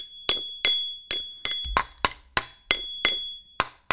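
Drum playing: about ten sharp, evenly spaced percussive hits, each decaying quickly, with a thin, steady high-pitched ring sustained underneath. No one speaks.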